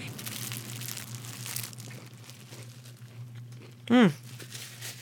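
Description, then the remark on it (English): Crinkly rustling of the wrapper of a vegan cookie sandwich from the Capital City Bakery being opened fills the first couple of seconds over a low steady hum, then quiets before a brief, loud voiced sound near the end as it is eaten. “I bought one of her vegan cookie sandwiches to try.”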